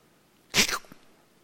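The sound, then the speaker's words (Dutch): A person briefly imitates a wounded cat with one sharp, breathy hiss-like yowl, fairly loud, followed by a faint short trailing sound, then quiet. “Ik ben net een poes die gewond is.”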